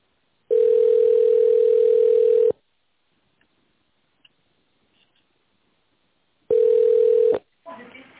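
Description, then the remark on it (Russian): A telephone ringback tone on a call to the company Avtomatika Service Group: a steady mid-pitched beep sounds for about two seconds, falls silent for several seconds, then starts again before being cut short as a voice begins. “Здравствуйте, вы позвонили в компанию Автоматика Сервис Групп. Пожалуйста, дождитесь ответа.”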